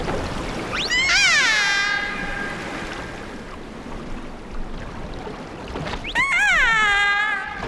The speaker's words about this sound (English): Killer whales have stereotyped calls, and all mammal-eating killer whales along the west coast of North America have a set of calls